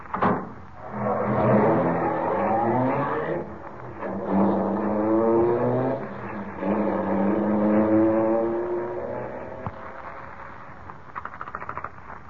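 A passing car's engine revs up on a road and accelerates through several gear changes, its pitch climbing and dropping repeatedly as it pulls away, loud, easing off slightly toward the end.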